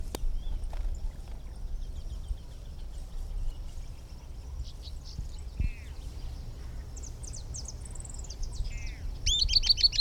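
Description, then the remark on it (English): An unbanded Camptostoma tyrannulet, one of a pair at a nest, sings high, thin notes in short bursts, a quick descending series building to a louder run at the end, over a low steady rumble of background noise. “Now here are some recordings of the unbanded bird, which is still present and singing.”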